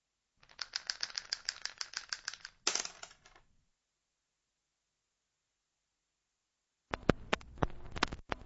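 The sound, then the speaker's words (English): Dice rattle rapidly in a cup for a couple of seconds, then go quiet, followed by a sharp burst of clattering as they tumble across a hard surface. Fairly loud, no voices. “Roll the dice. Roll the dice.”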